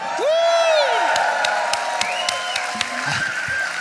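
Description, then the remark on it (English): A few players at a tabletop role-playing game cheer and applaud together after a natural 1 is rolled: rising, wavering whoops over a handful of scattered, sharp claps, lasting a few seconds at a moderately loud level. “A bitter applause.”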